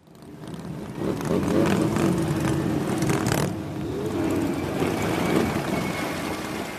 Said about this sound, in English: For more than 3 decades now, on the Sunday preceding Memorial Day, tens of thousands of motorcyclists have rumbled through the streets of downtown Washington, all a part of what's known as Rolling Thunder.